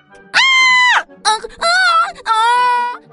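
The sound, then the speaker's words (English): A voice imitates a pig's squeal in three loud, drawn-out, high-pitched cries with brief pauses between them, strained and wavering, alone. “Go ahead and squeal.”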